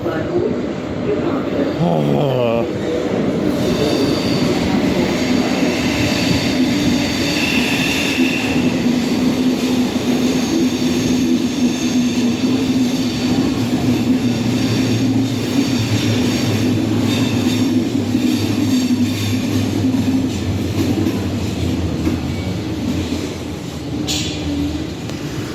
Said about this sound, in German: Das ist der Zug, der da jetzt gerade gegenüber eingefahren ist. Die lassen den Leuten wirklich nicht mal eine Minute Zeit, darüber zu kommen.